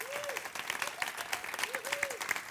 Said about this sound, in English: In the name of the ministers and practitioners of Centers for Spiritual Living, I applaud you. Okay, we applaud them.